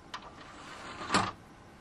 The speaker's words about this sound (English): Okay, so I'm going to shut this bottom drawer, and you're going to hear some beeps, and then it's going to start up.